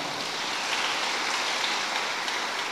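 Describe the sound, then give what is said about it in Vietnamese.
A group of children clapping hard together at a teacher's call for a big round of applause, a dense, steady crackle of many hands that stays loud for the whole few seconds, with no voices heard over it. “Cho một tràng vỗ tay thật là lớn.”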